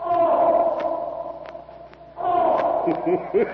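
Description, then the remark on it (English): A raging bull elephant named Black Moloch trumpets loudly from a corral, a long brassy blare that breaks off briefly, then surges back into a second sustained, wavering bellow. “several Taurian slaves stand uneasily eyeing the loudly trumpeting jungle titan”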